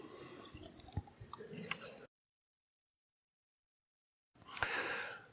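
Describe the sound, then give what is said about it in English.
Quiet sipping of water and swallowing with small wet clicks and breaths, two short bursts separated by a couple of seconds of silence, no talking. “Now, let me take a sip of water.”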